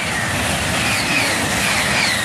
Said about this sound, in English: Recordings of high-speed trains in France have fanned local fears of noise pollution.